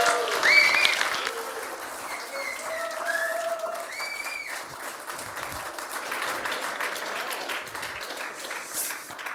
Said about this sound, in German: Und die Gastgeber, die begrüßen wir jetzt mal mit einem riesengroßen Applaus.